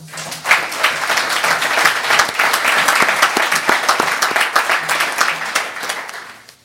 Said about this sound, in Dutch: Een applaus waard.